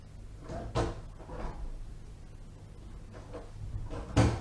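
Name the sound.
door opening and closing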